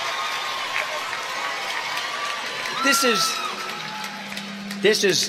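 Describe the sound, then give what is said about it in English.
A crowd at a Liberty University convocation cheers for Kirk Cameron in a steady wash of noise, with a couple of sharp, high whoops and shouts rising above it near the end. “who is cheering for Kirk Cameron?”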